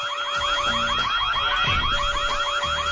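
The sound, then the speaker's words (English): Wailing sirens cycle rapidly and continuously in an overlapping, rising-and-falling pattern, loud and steady throughout, with low rumbling beneath and no voices. “There was no beat, no music, just sirens.”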